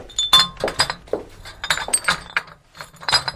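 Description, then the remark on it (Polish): Old glass bottles with ceramic swing-top stoppers and rubber seals clink and knock together in an irregular series of bright chinks, some leaving short ringing tones, moderately loud with no talking. “Stare butelki, takie zamykane ceramicznym zamknięciem z gumką.”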